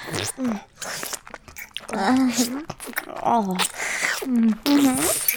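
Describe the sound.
Wet slurping and sucking mouth sounds of someone slurping on a popsicle, repeating in bursts with short voiced hums and murmurs in between.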